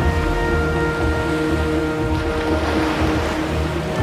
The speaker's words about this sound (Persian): شب و سیاوش در ساحل نشسته و دریا رو نگاه میکنه. دریا خروشان و مواجه.